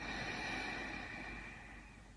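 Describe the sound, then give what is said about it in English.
A soft, steady, deep breath drawn in through the nose during a guided breathing exercise, a single continuous airy hiss that fades slightly toward the end, quiet with no talking. “And again, breathing in and out through your mouth.”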